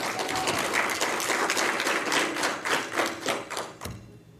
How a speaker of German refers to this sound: Dafür bitte einen Applaus ans Hackwerk Aalen.